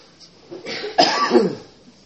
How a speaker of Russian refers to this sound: Два дня назад я немного простудился, у меня небольшой кашель. Когда много путешествуешь, легко подхватить простуду и кашель.